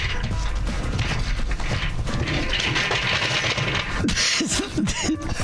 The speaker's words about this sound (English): Did you just fall out of your chair? Are you okay?